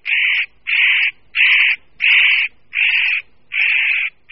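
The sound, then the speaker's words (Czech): A spotted nutcracker gives a steady series of about seven harsh, rasping alarm calls, each roughly half a second long with short gaps, loud, with no other sounds, at the edge of a forest clearing in snowy early-spring Czech mountain woodland. “V tichu ještě zasněžené předjarní přírody na Šumavě, v Jeseníkách nebo na Českomoravské vrchovině, při jízdě na běžkách nebo při procházce lesem, z nedadání nás na okraji paseky překvapí drsné, hlasité, varovné skřeky.”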